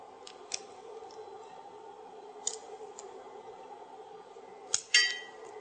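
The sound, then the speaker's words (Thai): A handful of sharp little snaps and clinks sound at uneven intervals as pieces of shiitake mushroom protein are broken off, not too large, and dropped into a pot of water starting to boil, over a steady low simmering hum. No one speaks. “ต่อไปก็จะเป็นตัวนี้ค่ะโปรตีนเห็ดหอมค่ะเราก็เริ่มหักใส่ไปเรื่อยๆค่ะเพราะตอนนี้น้ำเริ่มจะเดือดแล้วค่ะหักไว้หักชิ้นขนาดนี้ค่ะขนาดนี้ค่ะ หักไปประมาณ ค่ะไม่ให้ชิ้นใหญ่มากค่ะพอสวยงามหักไปใส่หักใส่ไปเรื่อยๆค่ะ”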